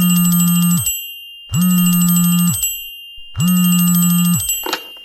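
A telephone rings three times, each loud buzzing ring lasting about a second with short pauses between, clear with no one speaking.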